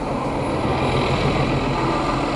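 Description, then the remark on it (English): Heavy bus engines rumble steadily as big buses barrel down Chestnut Street, a city street, in a loud, continuous low drone of traffic with no voices. “Big, noisy buses barreling down Chestnut Street.”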